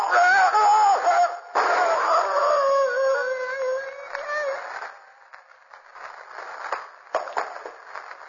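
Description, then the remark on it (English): A wolf howls and snarls in rising, wavering cries for several seconds, then the sound breaks into rough scuffling and thrashing noises as the wolf attacks a man. “Why didn't you let the wolf kill him, Shadow?”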